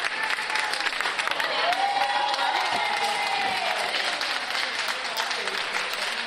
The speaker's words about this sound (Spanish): Hay aplausos y aplausos, pero es que estos son los aplausos que recibió por parte de todo el personal sanitario de IFEMA cuando salió por la puerta de este improvisado hospital convertido en el primer paciente, el primero que recibía el alta allí,